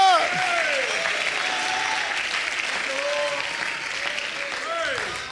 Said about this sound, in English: Oh, let's clap our hands and shout unto God. Hallelujah!